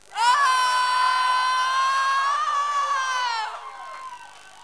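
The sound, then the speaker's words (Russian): A crowd at a live-broadcast event, on a count of three, lets out one loud, sustained high-pitched scream that holds steady for about three and a half seconds before trailing off. “Рвем глотки, как только можем, да?”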